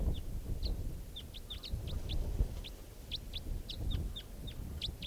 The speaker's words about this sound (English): Couple of crossbills here, right down low. And they're sitting on a tree stump now, although I don't see them near the decoy stump.